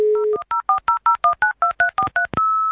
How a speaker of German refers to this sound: Man hat dann morgens im Badezimmer schon die Tür aufgelassen, weil mit den Modems, mit denen wir damals gearbeitet haben, die haben so merkwürdige Krächzgeräusche gemacht bei dem Versuch, eine Verbindung aufzubauen.